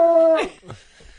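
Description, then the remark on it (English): Small dogs whimpering and howling: a loud, sustained high whine that bends downward, then a shorter fading whimper, with no talking. “Does anybody want a dog? They're cute. They're little.”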